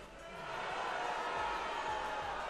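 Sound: crowd booing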